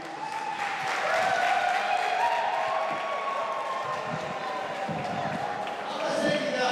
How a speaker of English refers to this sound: After about an hour, officers told the crowd to leave, but assured them police protection on the way out. Relieved, many attendees cheered the news.